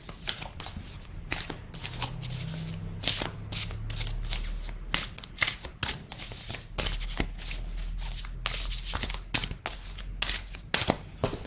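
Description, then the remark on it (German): A deck of Schamanisches Seelenorakel oracle cards being shuffled over and over, a dense run of crisp riffling bursts and soft slaps in an uneven rhythm, with a low hum underneath and no talking. “Ich hole die Karten jetzt raus, mische sie.”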